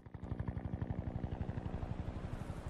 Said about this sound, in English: The helicopter flies in over Churchill.